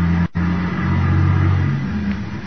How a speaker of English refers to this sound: Wait a minute. There's a car coming down the hill toward us. Sure is making time.